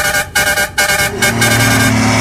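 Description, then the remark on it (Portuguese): A truck horn honks loudly: two short blasts followed by a longer, sustained blare, with a deeper horn tone joining underneath toward the end. No one speaks. “Ah, rapaz, o pessoal ainda vem na carreta, carro, carreta na roedeira.”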